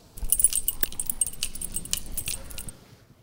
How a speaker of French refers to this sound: Est-ce un trousseau de clés, une clochette pour appeler ou des glaçons qui s'entrechoquent? Eh oui, c'était un trousseau de clés.